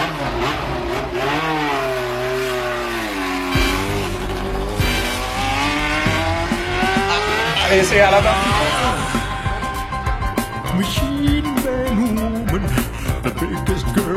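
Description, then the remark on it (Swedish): Emerson Fittipaldi's old McLaren Formula One race car roars past in stereo in a song intro, its loud high-pitched engine sweeping up and down through gear changes before blending into a busy, steady stretch of sound toward the end. “Och bilen man hör där i introt, det är inget mindre än Emerson Fittipaldis gamla McLaren-bil.”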